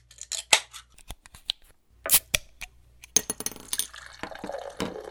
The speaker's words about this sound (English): Let's crack open our beer. You have a Goose Island Bourbon County brand stout we sent you. Hope you like it.